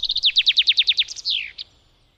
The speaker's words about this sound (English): You can hear the chaffinch's song almost anywhere there are trees, and the sound of a male bird singing is one of the first signs that spring is on the way.